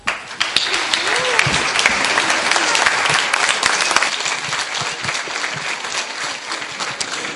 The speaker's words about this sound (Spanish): Un aplauso.